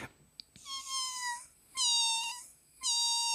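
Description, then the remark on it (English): A person's voice imitates a cat, giving three drawn-out, high meows in a row, each loud with short pauses between them and no talking. “How could you teach a cat to meow”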